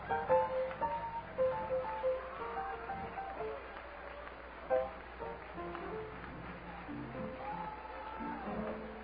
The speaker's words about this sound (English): Oh, let's clap our hands and give God praise.